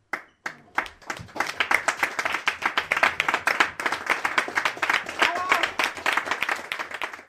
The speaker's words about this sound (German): Der Applaus blieb aber nicht aus.